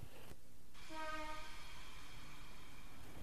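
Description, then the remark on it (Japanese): An electric train rumbles steadily along the rails, with a brief rising motor whine near the start over the continuous clatter and hum. No one speaks. “ゆかりは逃げるように電車に乗り込みました。”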